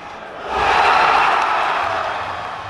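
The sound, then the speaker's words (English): A large crowd of CSKA hockey fans erupts into sustained cheering and roaring as they celebrate the winning goal, swelling quickly after a quieter start and staying loud and dense throughout. “CSKA fans celebrate the winning goal.”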